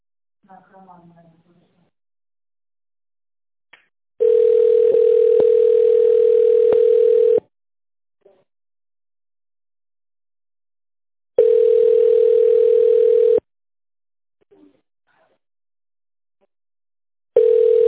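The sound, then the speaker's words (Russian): A steady telephone line signal sounds in long, evenly spaced bursts of about three seconds each, loud, after a company's automated phone greeting asking callers to dial an employee's extension number, with a brief snatch of voice at the very start. “Если вы знаете внутренний номер нужного вам сотрудника, наберите его на вашем телефоне после сигнала.”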